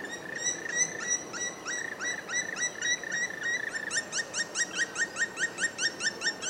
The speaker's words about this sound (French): on sait reconnaître le chant d'un pic noir